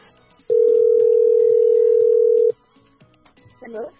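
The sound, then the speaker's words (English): An outgoing phone call's ringing tone from radio station OFM calling a Standard Bank competition entrant: one loud, steady electronic burst lasting about two seconds, then quiet line noise with a brief faint voice-like sound near the end. “All you need to do now is answer your phone.”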